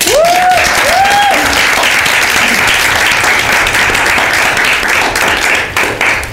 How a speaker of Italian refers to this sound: Va bene, allora un applauso alle amiche.